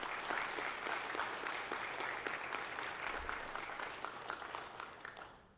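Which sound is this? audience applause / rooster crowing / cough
audience applause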